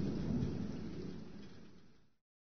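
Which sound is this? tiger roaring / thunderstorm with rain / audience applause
thunderstorm with rain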